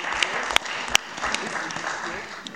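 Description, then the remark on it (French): An audience at a municipal council meeting applauds a municipal councillor steadily, a dense patter of many hands clapping with a few sharper, louder claps standing out, and no voices over it. “Et on peut l'applaudir, les gens peuvent l'applaudir.”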